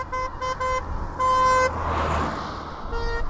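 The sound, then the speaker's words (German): A car horn honks in several short bursts and one longer blast, then a vehicle whooshes past and the horn sounds again at a lower pitch as it moves away, showing the Doppler effect. “Sogar mit Doppler-Effekt, sagenhaft.”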